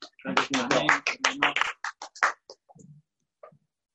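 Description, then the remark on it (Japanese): A short round of audience applause at a church gathering, thanking a Bible reader: a quick flurry of overlapping claps with voices mixed in, thinning to a few scattered claps before trailing into quiet. “ありがとうございます。拍手で。”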